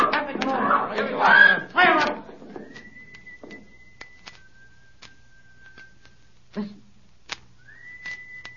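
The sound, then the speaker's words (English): In a drama featuring Holmes, shouting voices give way to a man's whistled signal: long, steady, high-pitched whistle notes that slide up into a held tone, repeated three times, with a few sharp ticks and thumps between them. “Holmes, that's him. That's the signal.”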